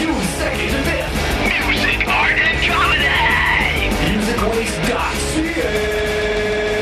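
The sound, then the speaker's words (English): Monster truck engines roar loudly and continuously while tires skid and squeal in rising, sweeping whines, with a voice faintly shouting beneath the din, as part of an ad pitch for Music Wiz 2010. “Sorry, there will be no monster trucks.”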